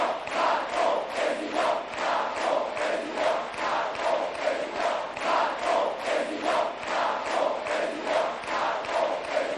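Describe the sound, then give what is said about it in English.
A large crowd of Emmanuel Macron's supporters cheers loudly and steadily as he addresses them during the French presidential runoff campaign, their voices swelling in a regular pulsing rhythm, like a chant, that repeats about twice a second throughout. “Before a cheering crowd of supporters, Mr. Macron has called on all what he terms patriots to rally behind him against what he calls the threat of the nationalists.”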